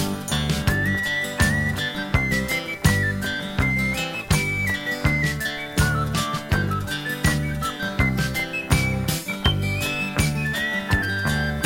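A bright whistled melody rises and dips in a thin, clear line over a full band playing a steady, bouncy beat with bass and percussion, no singing.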